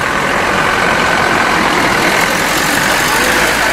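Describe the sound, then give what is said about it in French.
A heavy engine idles steadily at the Chongqing freight station in China, starting point of an Asia-Europe freight train to Duisburg, Germany: a constant loud rumble with a hissing wash on top in a broad, busy outdoor ambience, no voices. “La gare de fret de Chongqing, point de départ du Usinan, ce train Asie-Europe qui avale 11 000 km et traverse 6 pays avant d'arriver à Duisbourg, grand port industriel en Allemagne.”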